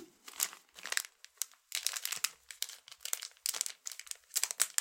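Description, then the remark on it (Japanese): Crisp crinkling of a plastic gauze package being handled and opened as the gauze is taken out, on a bed in a bedroom, coming in irregular bursts of rustling for several seconds with brief pauses between, no voices. “はい、じゃあ脱げたので、ちょっとじゃあガーゼをちょっと取り出します。”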